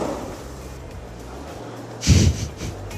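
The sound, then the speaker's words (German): A champagne cork pops once at Wimbledon, between Belinda Bencic's first and second serve, loud and abrupt, with a short airy hiss trailing off right after it, set against a quiet, steady low background murmur with no talking. “Das war ein Sektkorken.”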